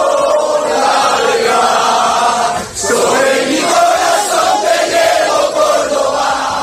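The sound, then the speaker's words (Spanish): Córdoba supporters sing the club anthem in the stadium's third tier, a loud, sustained wall of massed voices with a steady melodic swell and a brief dip partway through before the chanting resumes. “Y que se escuche en el tercer anillo, el himno.”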